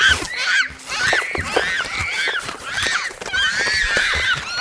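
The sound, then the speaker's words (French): Loud, harsh squawks and screeches overlap continuously as two parrots fight in the thickets, with rapid clattering and chattering calls tumbling over each other for several seconds. “des claquettements, des gloussements, des piaillements, une frappe, top, griffe, rote. Deux perroquets se bagarrent dans les fourrés.”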